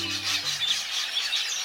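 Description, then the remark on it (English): Dense, continuous high-pitched chattering from a huge flock of red-billed queleas, African birds of south of the Sahara that roam in flocks of 2 million or more, swelling and fading in quick rhythmic waves, with a low sustained tone fading out in the first second. “In Africa, south of the Sahara, there's a bird that roams the countryside in flocks, hordes really, of 2 million or more.”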